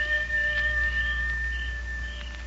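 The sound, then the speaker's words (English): A wolf howls in one long, steady, high-pitched note, held for a few seconds over a low background rumble. Nobody speaks. “Well, that there's either a real wolf out there, or else that's Nasha.”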